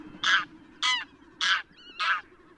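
A domestic farmyard goose, domesticated from the wild Greylag goose, honks four times in a steady, evenly spaced rhythm, loud, with a faint low rumble underneath and no voices.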